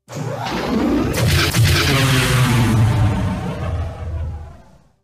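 A sci-fi ion cannon from the rebel base on Hoth fires with a loud, sustained electronic roar over a deep rumble, swelling into a crackling blast before slowly fading out. No voices are heard.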